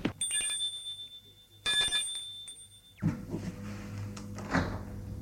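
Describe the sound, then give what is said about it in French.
A doorbell at the left-hand door on the second floor of an apartment building rings twice, two bright chiming tones with a lingering ring, followed by a rattling, shuffling clatter as a maid opens the door. No one speaks. “Et elle va sonner à la porte gauche.”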